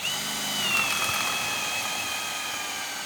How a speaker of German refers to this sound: Die Zimmerer bohren in ein neues, helles Balkenstück, das in einen alten Balken eingesetzt ist. Zusammengehalten wird das Ganze mit Eisenstiften.